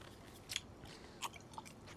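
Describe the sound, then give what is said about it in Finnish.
Gum being chewed: a few sharp, wet smacking clicks at irregular intervals over a faint background hiss, with no talking. “Okei, mä otan tämän purkan pois.”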